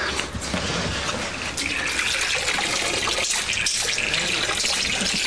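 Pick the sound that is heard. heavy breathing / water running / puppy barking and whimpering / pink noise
water running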